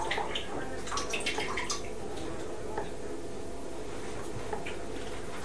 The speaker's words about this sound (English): What are you doing in the water? I've never known anybody to eat in the bath.